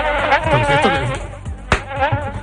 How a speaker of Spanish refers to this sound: Y este mosquito que está por aquí.